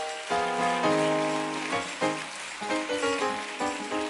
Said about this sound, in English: I want you all to come down and welcome these ministers and thank these ministers for the word that they have delivered this day. Let's give the ministers a hand clap.